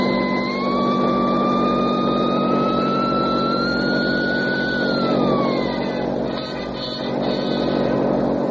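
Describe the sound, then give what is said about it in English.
A car engine roars, its whine rising steadily as it accelerates, then the pitch falls away as the vehicle drives off toward the west gate. Loud, continuous, no voices. “Kick that sign open and drive straight to the west gate.”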